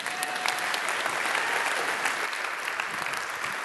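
Steady applause from an audience, a dense wash of many hands clapping at once, holding an even loudness for a few seconds without any voices.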